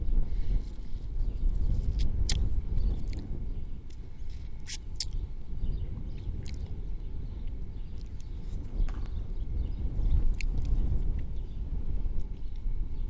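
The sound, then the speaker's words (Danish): Wind on a sunny day at a town square buffets and rumbles steadily across an outdoor microphone, a dense low roar that never lets up, with occasional sharp clicks and taps scattered through it. No one speaks. “Hvor det blæser.”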